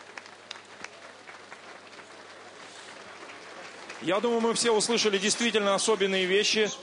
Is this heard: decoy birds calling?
no